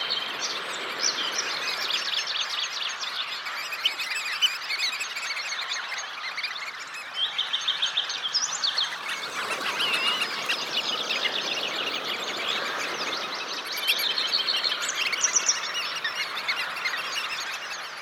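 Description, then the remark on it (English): A dense chorus of hundreds of birds gathered in the branches of a banyan tree in a plaza in Lahaina in the late afternoon, chirping and singing at once, a continuous overlapping chatter of high tweets and calls that stays loud and busy throughout, with no voices. “Every day at this hour, hundreds of birds gather in the branches of the banyan tree to sing.”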